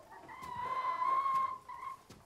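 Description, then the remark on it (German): A hen lets out a drawn-out, nasal squawk inside a house, followed by a shorter squawk after a brief pause. No one speaks. “Du lässt deine Hühner hier ins Haus?”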